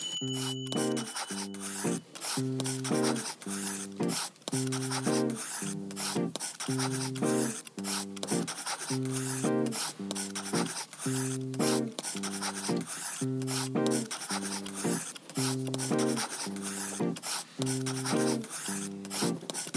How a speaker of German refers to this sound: So schnell konnte ich gar nicht schreiben. Mir ist für alles was eingefallen, aber ich war noch gar nicht durch. Wahnsinn. Dafür kann man meine Schrift nicht lesen.